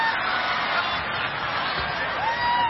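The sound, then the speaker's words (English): A crowd, asked to clap if they think they would go to heaven, gives subdued applause mixed with a few scattered cheers, a steady wash of noise throughout with some voices calling out above it. “Couldn't even get your hands up to clap.”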